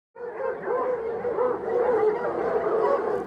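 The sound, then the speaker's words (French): A pack of hunting dogs chasing a deer in a forest barks and bays together in a steady, overlapping chorus, fairly loud and continuous from start to finish, with no pauses and no one speaking. “Il entend des chiens qui chassent un cerf.”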